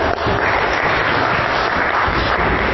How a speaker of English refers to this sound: Should we give them a little round of applause?